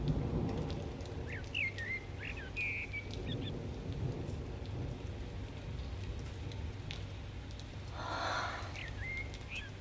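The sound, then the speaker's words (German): Steady rain hisses throughout with a low, rolling rumble of thunder underneath, swelling briefly near the end, while a few faint bird chirps cut through the storm. “Der Regen, das Gewitter.”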